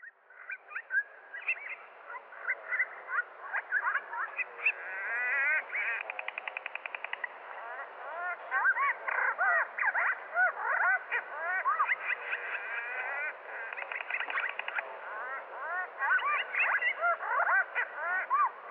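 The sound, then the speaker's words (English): Swallow song played slowed down: a continuous run of lowered, drawn-out warbling whistles, swooping chirps and buzzy rattling trills, fairly loud and steady, with no talking over it. “We're going to listen now to a short section of swallow slowed down.”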